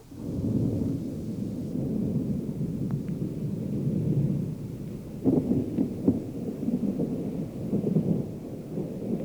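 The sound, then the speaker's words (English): Low, distant thunder from behind the cliffs, as big, heavy thunderheads race overhead before a storm, rolls on in a steady, deep rumble for about nine seconds, swelling with a few sharper, louder pulses partway through, with no voices. “Pretty soon, here came a low growl from away back behind the cliffs.”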